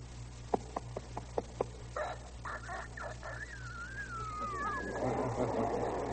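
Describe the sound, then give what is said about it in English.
A four-month-old rooster on a farm lets out a few short clucks, then a thin, wavering, uneven crow that breaks and trails off, heard alone over a low steady hum. “You've got here The Life of a Rooster in four parts. One day, 4 months, a year, and 4 or 5 years old.”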